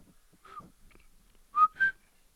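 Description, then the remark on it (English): A person whistles the word "ita", meaning "take", as a short pattern: a faint falling note, then two clear whistled tones close together, the second higher than the first, a low-high tone pattern rendered in whistle. “Can you whistle that one for me?”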